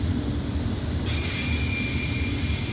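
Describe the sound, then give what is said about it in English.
A train rumbles past on the rails, loud and steady, and about a second in a high metallic wheel squeal starts and keeps ringing over the heavy rolling noise. “Yo, that train has been battered, bro.”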